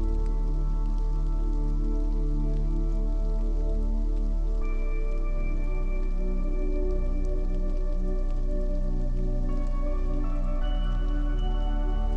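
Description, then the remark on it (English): Steady, soft rain patters continuously beneath a sustained, gentle ambient drone, with no voices and no breaks from start to finish. “Let all unwanted emotions disappear with the rain.”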